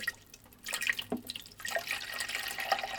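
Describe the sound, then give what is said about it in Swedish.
Water is poured through a funnel set into the small gap beside the filter holder of a coffee maker, a steady gurgling trickle with a few brighter splashes over about three seconds. No one speaks. “Så ner med tratten i hålet och... Och sen häller man i vattnet där.”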